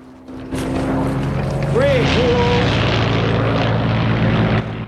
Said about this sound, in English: He looks up when he hears the Spitfire.